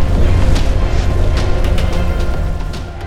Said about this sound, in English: The ship was maneuvering into an evasive turn, but there was no time. The shattered, rearward bulk of the Theta slammed into it, lighting up the void as the reactor went critical.